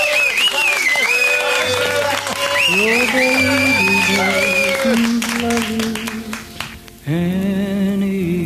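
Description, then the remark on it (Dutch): An audience claps steadily, the applause mixed under sustained singing voices and music, fairly loud, briefly dipping before the music swells again. “Geef ze een dik applaus.”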